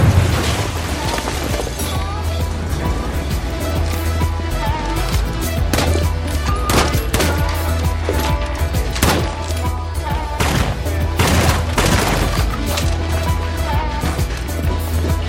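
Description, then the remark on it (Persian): Sharp, loud cracks of gunfire go off in irregular bursts and clusters throughout, some close together like rapid automatic fire, over a steady low rumbling drone. “تیراندازی شده به مرکز اطلاع بدین.”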